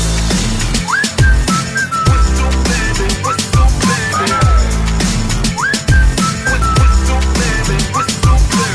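A bright, melodic whistle hook repeats with short sliding notes over a punchy, steady hip-hop beat with heavy bass and crisp percussion, loud and up front.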